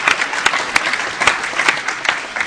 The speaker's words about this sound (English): That's right, applause for John.